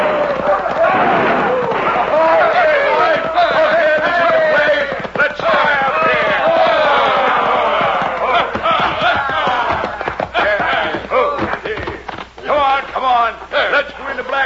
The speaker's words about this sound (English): It all started when a crowd of hoodlums rode into Dos Rios, airing their lungs and triggering their guns.